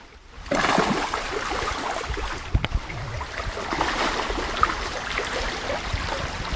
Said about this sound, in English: Of course, all the splashing we're hearing is not rock riffles. Those are salmon riffles as they're pushing their way upstream.